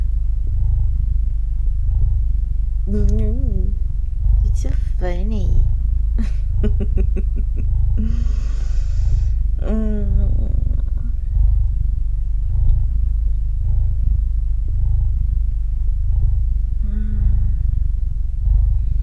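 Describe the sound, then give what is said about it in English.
A person imitates a cat's purr with a steady, low vocal rumble that runs unbroken throughout, while brief bits of speech and laughter rise over it. “I might be part cat, but I'm not gonna sweat at you.”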